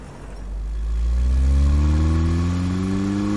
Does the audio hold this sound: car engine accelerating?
yes